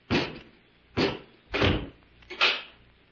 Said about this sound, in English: Robot One, close the door and bolt it.